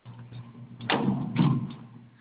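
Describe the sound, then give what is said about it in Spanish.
A door is pulled open with a broad creaking swoosh and a dull knock partway through, fairly loud over a low background hum, with no one talking. “está la puerta cerrada. ¿Quieres que la abra? A ver, ayúdenme a abrirla, por favor.”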